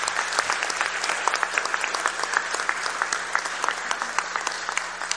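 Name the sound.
round of applause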